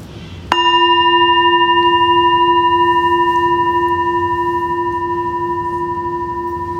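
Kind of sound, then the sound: signal or alarm, meditation bell ringing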